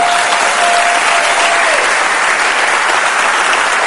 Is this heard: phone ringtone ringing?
no